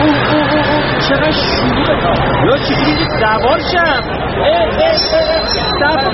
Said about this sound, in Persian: الانم توی ایستگاه اتوبوس خیلی شلوغ وایسادم. آها اتوبوس داره میادش.